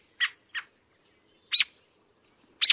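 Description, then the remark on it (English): A sparrow double-scratches through dry leaf litter while foraging on the ground, in short, crisp rustling bursts. A quick pair comes first, then two more separated scrapes, fairly quiet, with no voices. “does this twice in rapid succession, in a behavior so distinctive of sparrows that it has a special name, the double scratch.”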